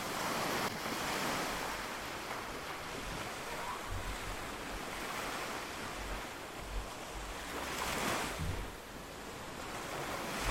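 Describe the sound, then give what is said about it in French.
Steady ocean surf rolls in with broad, hissing washes that swell and recede, a louder wave breaking near the start and another around eight seconds, with light wind noise and no voices. “Le corps se retrouve face à la mer, dans ses mouvements de vie, ses vagues qui changent à chaque instant.”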